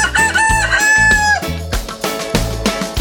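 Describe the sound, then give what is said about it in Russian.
A single loud rooster crow rises and falls over about a second, layered on upbeat music with a steady thumping beat that continues after the crow ends. “Поет веселый петушок кукареку.”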